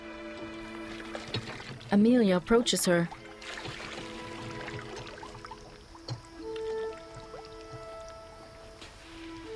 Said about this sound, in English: Later, under the hot afternoon sun, Jude pumps water by hand.